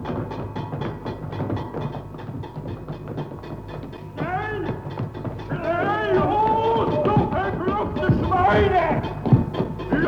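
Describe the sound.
Many wooden clogs worn by prisoners at the Stutthof concentration camp clatter in a dense, steady rhythm on a hard surface, continuous, while raised voices call out over the shuffling march in the second half.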